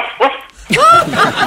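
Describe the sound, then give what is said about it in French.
A dog gives a short bark, then after a brief pause a longer, drawn-out bark with a whining, yowling edge, loud. “Vous aviez une question, monsieur Chien?”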